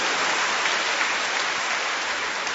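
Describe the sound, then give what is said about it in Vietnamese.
A steady, dense wash of audience applause as people greet and congratulate one another, many hands clapping at once with no distinct individual claps, sustained and fairly loud throughout, no voices. “Ta hân hoan chào nhau, đón chào nhau và chúc mừng nhau một tràng pháo tay nồng nhiệt thưa các bạn.”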